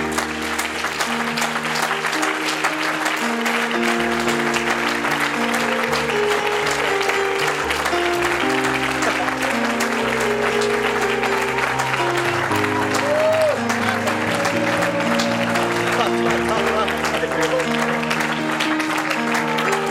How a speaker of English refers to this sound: One more time, would you give the Lord a good hand clap of praise?